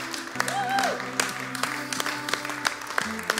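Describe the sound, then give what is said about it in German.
An audience at a church service applauds for Jesus, steady clapping with scattered sharp claps standing out, over a sustained organ or keyboard chord, with brief crowd voices mixed in. “Ihr Lieben, gebt Jesus einfach nochmal einen Applaus.”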